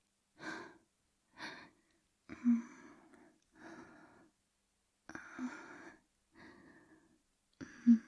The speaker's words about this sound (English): It's so hot to hear how your breathing is getting heavier.